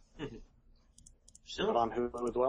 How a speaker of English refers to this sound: By the way, I'm also, if you hear me clicking around, it's because I'm adjusting the volume as we go. Sometimes I'm a little too loud, or you guys are too loud.